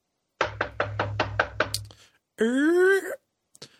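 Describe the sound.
Six quick, evenly spaced knocks on a house door in the early afternoon, fairly loud, followed by a short drawn-out vocal sound from a person.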